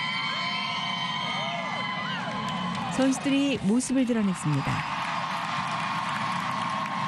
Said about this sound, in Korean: 미국의 상징 성조기를 흔들고 챔피언을 외치는 시민들. 여자 축구 대표팀을 좋아하는 마음을 감추지 않았습니다.